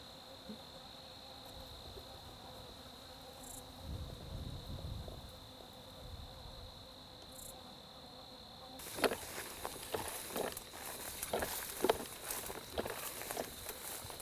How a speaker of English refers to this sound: We've got orange thorax and red thorax, five unmarked bees.